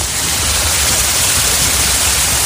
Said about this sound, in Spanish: Son las cascadas, y ese sonido ha sido precisamente el origen del cierre hace 20 años.